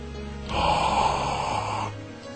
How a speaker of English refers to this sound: You just like hearing me breathe.